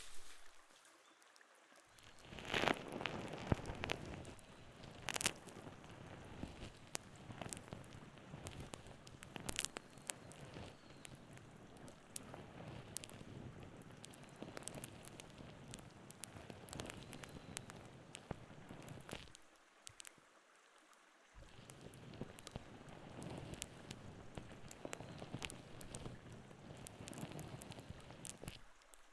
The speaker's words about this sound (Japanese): ちょっとゾクゾクしますよね。普通は耳に泡なんて塗らないですし、ブラシが当たる感触と音も心地よくて。